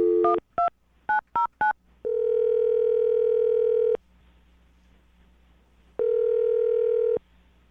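A quick series of touch-tone beeps as a phone number is dialed to call a woman, followed by a long ringback tone, a pause, and a second ring tone, heard clearly with no one talking.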